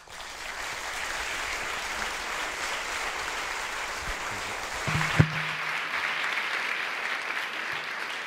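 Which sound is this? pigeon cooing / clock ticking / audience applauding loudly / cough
audience applauding loudly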